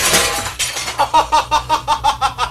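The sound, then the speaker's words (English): An expensive glass shatters in a loud crash, followed by a quick, rhythmic run of bright tinkling as shards skitter and settle for a couple of seconds. “You gotta pay for a major expensive glass.”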